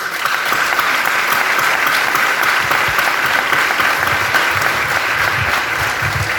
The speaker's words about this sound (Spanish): Por eso quiero que esta noche nos autobrindemos un aplauso de agradecimiento por todo lo que le han entregado a nuestro querido y amado Castro.